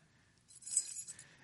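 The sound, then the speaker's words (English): Keys jingle on a ring in a soft, bright metallic rattle lasting about a second, several small clinks blurring together, quiet, with no voices. “I recently cleaned out my key ring.”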